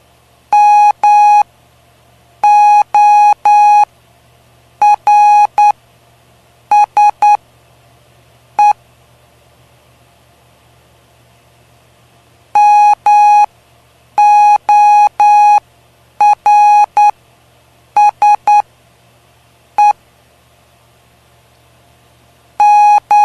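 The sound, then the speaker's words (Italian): Steady, mid-pitched Morse code tones beep out short dots and longer dashes in grouped bursts separated by pauses, spelling the word "Morse", with a low constant hum underneath and no voices. “M O R S E. Morse.”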